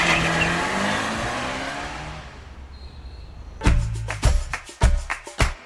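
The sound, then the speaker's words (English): A car engine roars loudly as it drives off, its pitch sliding down as the rumble fades, followed by a quick run of sharp knocks and thumps. “Then roared off again.”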